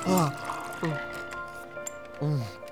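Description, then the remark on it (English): Three watery glugs of ice water being poured or gulped down, each a short gurgle, spaced about a second apart with quiet moments between. “Here, drink this.”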